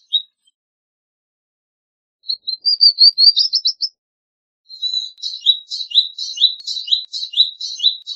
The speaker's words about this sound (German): Unser Vogel der Woche, der Palästina-Nektarvogel. Übrigens immer dort am dichtesten anzutreffen, wo es die meisten Blüten und damit auch das meiste Wasser gibt in dieser kargen Region.